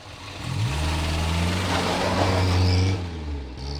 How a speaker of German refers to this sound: Das Auto war schon in Bewegung.